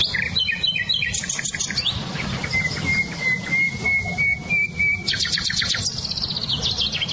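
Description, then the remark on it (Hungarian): Several birds, including nightingale, blackbird, chiffchaff and blackcap, sing at once outdoors: rapid trilled phrases, a long steady whistled note, and bursts of chirping, clear over a low background rumble, with no talking. “nem csak a fülemüle hallatszik ki, hanem például a fekete rigó, csilcsafűzikének nagyon erős hangja van, vagy barátposzáltak”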